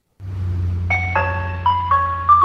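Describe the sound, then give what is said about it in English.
An ice cream truck's chiming jingle, heard in the afternoon by someone getting out of a car at home, plays a stepping melody of bright electronic notes over a steady low engine rumble, moderately loud, with no talking. “The ice cream man.”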